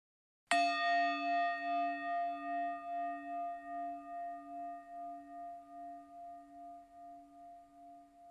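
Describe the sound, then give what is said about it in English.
A single meditation bell, rung to end a meditation, strikes once with a bright attack, then rings on in a long, slowly fading tone with a gentle pulsing wobble, heard alone in silence. “We'll end this meditation with a single bell.”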